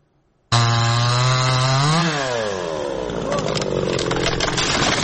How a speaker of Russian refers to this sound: Возле разрушенного в прошлом месяце российским авиаударом здания местные жители прифронтового поселка Очеретина пилят поврежденные взрывной волной и осколками деревья. Пока нема дождей, сухое дерево, на дрова, на буржуйку, самовар греть